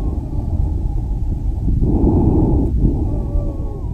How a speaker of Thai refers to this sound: อันนี้จะเปิดให้ฟังว่าเวลาหมอฟังเสียงปอดแล้วเสียงวีดที่ได้ยินจากสเตทเป็นยังไงให้ลองฟังได้ยินไหมคือมันจะมีเสียงหายใจดังกว่าแต่มันจะมีเสียงวีดเล็กๆอ่ะแทรกอยู่ตอนหายใจออก